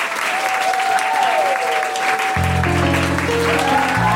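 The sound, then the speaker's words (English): Loud, steady applause from the audience at the close of the Global Pillage show for its performers, including Mae Martin, a dense wash of clapping that lasts throughout, joined partway by a sustained musical chord and a few high tonal lines. “Please give it up for Mae Martin.”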